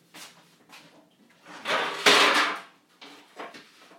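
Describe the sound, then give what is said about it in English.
Kitchen clatter as a frying pan is put away: a few light knocks, then a louder scraping, sliding rush with clunks in the middle, fading to softer taps. No one speaks. “Frying pan. I do put that in there because I'll wash it out quickly first.”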